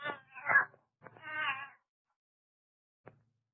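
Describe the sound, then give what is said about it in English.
A cat named Ophelia meows twice in quick succession, fairly loud with drawn-out wavering tones, then after a brief silence gives one short, faint chirp. “Quiet, Ophelia. Ophelia? Huh. And what kind of a name is that for a cat?”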